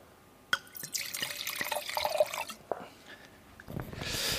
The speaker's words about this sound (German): Ich würde sagen, jetzt schenke ich erstmal den ersten Wein ein.